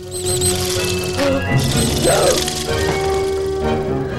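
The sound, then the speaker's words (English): A clockwork toy mouse whirs across a kitchen floor and then bumps into a dog basket with a short clattering crash, over a steady backdrop of sustained tones and high chirping sounds. “they flick open as a clockwork mouse scuttles across the floor. Her eyes shoot from side to side as the mouse crashes into a dog basket.”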